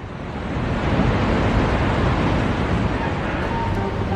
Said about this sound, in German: Es sind Unmengen von Wassermassen, die seit heute Nacht aus dem ukrainischen Kachowka-Stausee auslaufen. Der Staudamm ist zerstört.